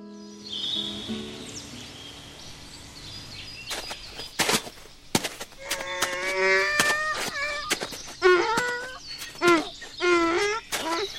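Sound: donkey braying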